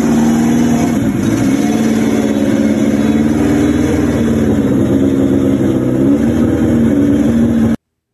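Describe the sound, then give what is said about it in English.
A car engine idles steadily with a low, throbbing rumble and slight shifts in pitch as the car is pulled forward into a truck, loud and continuous with no talking. “Real quick, just a little bit of just the sound just kind of idling as it goes into the truck.”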